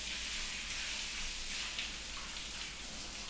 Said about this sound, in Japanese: ん？ああ、ごめんなさい。シャワーの音で聞こえなかった？